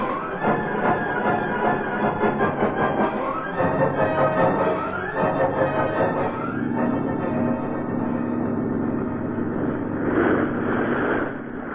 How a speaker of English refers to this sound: Yeah. Start the motor on that boat.